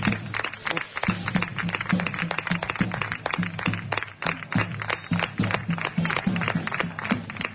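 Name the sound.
stadium crowd applauding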